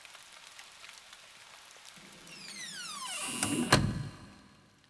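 Steady rain patters softly in the background late at night, then a door slides open with a rising, creaking squeal and a heavy knock near the end, no voices present.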